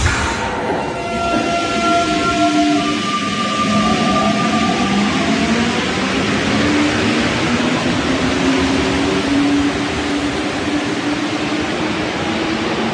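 Loud, continuous rumble of a metro train moving through a station, with a motor whine that climbs steadily in pitch as it picks up speed; no voices are heard.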